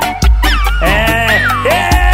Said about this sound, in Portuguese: Esse é o cachorro cantor, menino. Pode cantar. Cante. Meu cachorrinho virou cantor e agora tá tocando terror.